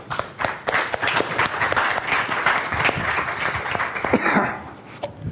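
Steady applause from a crowd, dense overlapping claps sustained at a fairly loud, even level for about five seconds before tapering slightly at the end, with no speech over it.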